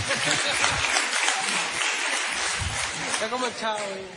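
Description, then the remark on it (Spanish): Audience applause fills the whole stretch, a dense, steady patter of many hands clapping, with voices and a bit of talk rising through it toward the end. “Un aplauso”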